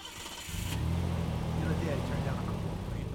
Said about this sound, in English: So as we get into his car and start driving, I keep recording it all on my phone.